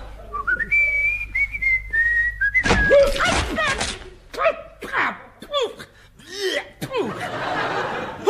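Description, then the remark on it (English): A clear, wavering whistle glides along for a couple of seconds, then gives way to bursts of laughter and lively voices. “Stand on one leg and whistle.”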